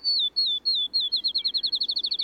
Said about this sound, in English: Outside of town, listen for the field sparrow's song, which sounds like a ping pong ball bouncing and then coming to rest.